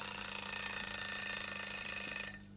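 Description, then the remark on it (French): An alarm clock rings loudly and continuously with a shrill, metallic buzz for a couple of seconds, then cuts off abruptly. No one speaks. “Et mon réveil sonna.”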